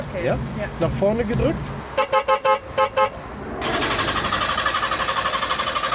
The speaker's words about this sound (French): Un son de casserole, du carton dans la carrosserie, pollution optimale, vitesse de croisière 40 km/h. Voici la Trabant, le fleuron technologique de la défunte République démocratique allemande.